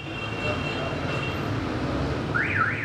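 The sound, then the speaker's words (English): Dense traffic noise rumbles steadily, with drivers honking car horns as they try to get through a street packed with cars, and a warbling alarm-like tone rising and falling near the end. “Drivers honk their horns in a futile effort to get through a street packed with cars.”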